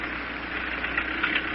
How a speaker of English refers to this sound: They're starting up the motor of my taxi cab.